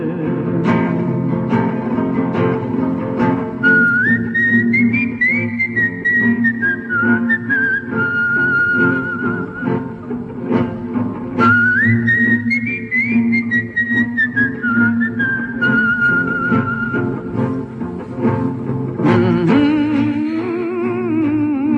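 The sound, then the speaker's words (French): A whistled melody rises and falls in two long phrases over steady instrumental backing, clear and fairly loud, with no voices. “Sifflez, compagnons, dans la nuit, la liberté nous écoute.”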